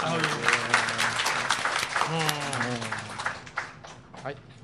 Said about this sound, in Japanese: じゃあ拍手ぐらいもらおうよ。